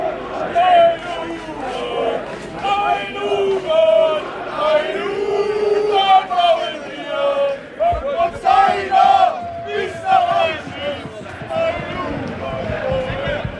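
A large football stadium crowd in eastern Germany chants loudly in unison at the Sachsen Leipzig versus Chemnitzer FC match on 17 May 2006, many voices rising and falling in a steady rhythmic pattern of sustained, shouted phrases that go on without a break.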